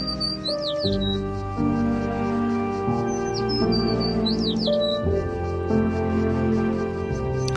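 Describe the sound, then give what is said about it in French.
High, quick bird chirps and sweeping whistles come in two bursts, heard clearly over a steady bed of sustained instrumental music with slowly changing notes. “Et puis attendre que l'oiseau se décide à chanter.”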